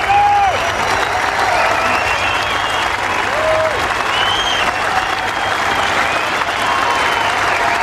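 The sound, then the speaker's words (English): Sustained golf crowd ovation at St Andrews as Tiger Woods walks over the landmark bridge at the 18th hole; steady, dense applause and cheering that stays loud throughout, with occasional whistles rising above the clapping. “Well, that ovation went on for about 2 minutes yesterday.”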